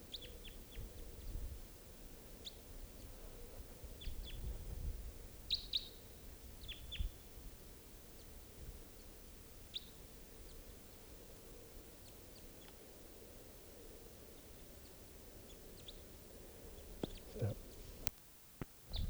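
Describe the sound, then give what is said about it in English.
A pair of small birds near a mist net chirp in short, high, scattered bursts over a steady low rumble of outdoor noise. The calls are faint and come irregularly, a few at a time, with no one talking. “Just rushed those birds, missed them.”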